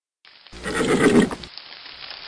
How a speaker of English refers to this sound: Sasha's horse nickered, and they came to a stop.